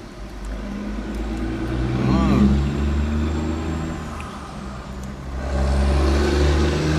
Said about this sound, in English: Quite a few trucks driving on the road around here.